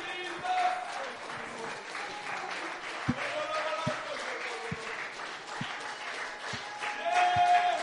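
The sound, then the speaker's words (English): An audience claps hands over their heads in a steady rhythm, roughly one sharp beat per second, over a continuous wash of crowd voices and raised shouts. “Clap your hands over your head before the depression can get to it.”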